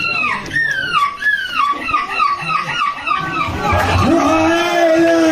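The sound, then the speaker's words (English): A 9-year-old boy from Chesterfield, Derbyshire, winner of a seagull-imitation contest in the Belgian coastal town of Depan, imitates a hungry seagull with a rapid run of high, descending squawking calls, loud, followed by a longer wailing cry as crowd noise and applause swell underneath. “Here is his version of a hungry seagull.”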